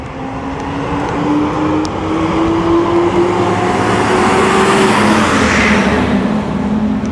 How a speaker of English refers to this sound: Garbage truck.